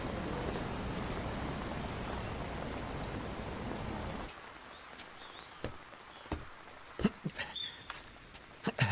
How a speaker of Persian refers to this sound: بارون گرفت.